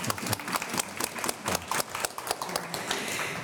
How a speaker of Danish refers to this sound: Velkommen til dig, Jens Christian Grøndahl. Tak. Jeg synes, vi skal klappe. Det er så dejligt, du er her.